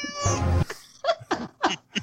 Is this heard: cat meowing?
yes